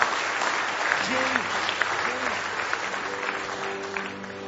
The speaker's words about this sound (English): We read the back of the book and give him a hand clap of praise if you love him this morning.